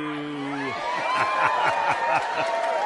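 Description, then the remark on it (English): Steady crowd cheering rises after a short held tone, with repeated whoops and shouts over a dense wash of voices at a fairly even, moderate loudness. “Was that the accountants cheering there?”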